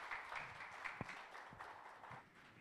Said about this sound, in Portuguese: Uma salva de palmas aqui para o nosso irmão